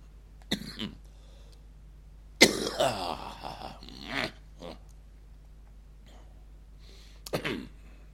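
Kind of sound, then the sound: human body sound, coughing and throat clearing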